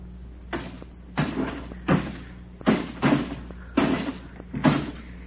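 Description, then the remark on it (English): The window glass panes of a house are smashed out in a quick series of about seven sharp, crunching crashes, irregularly spaced, over a steady low background hum. No one speaks. “And we've knocked out every pane of glass in the place.”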